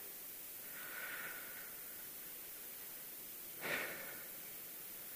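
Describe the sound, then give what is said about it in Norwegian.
A soft, drawn-out breath is followed a couple of seconds later by a sharper, louder deep inhale, both over a steady background hiss with no talking. “Man må nesten puste dypt inn for å kjenne det.”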